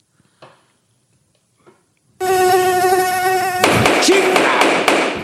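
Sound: cricket chirping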